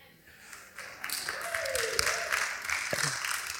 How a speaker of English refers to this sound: It's you there clapping, mate.